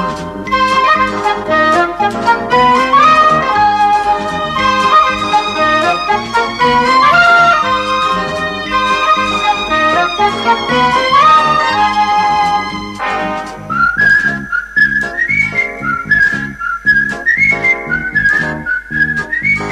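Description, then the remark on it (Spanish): A bright whistled melody carries the cheerful intro theme of a TV series over a steady band accompaniment, loud, the whistling rising into a higher, more sustained phrase near the end. “esta introducción con silbidos fue como uno de los puntapiés para mi deseo del”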